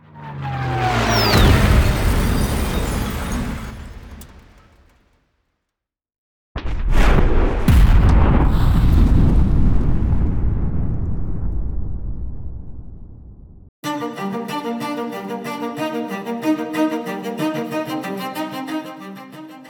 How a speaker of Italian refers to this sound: Bombe, che venivano tra l'altro sganciate e lasciate cadere dal secondo pilota costretto a sporgersi con gli ordigni in mano dalla carlinga, bombe che cadono su Porta Romana e finiscono in mezzo alla gente che stava osservando questa scena